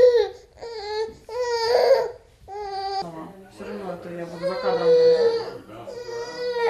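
An infant girl cries in a series of wailing bursts, high and strained, with short gaps between the first few cries before a longer, continuous sobbing stretch; fairly loud, no talking.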